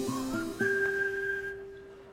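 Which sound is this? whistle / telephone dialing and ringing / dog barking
whistle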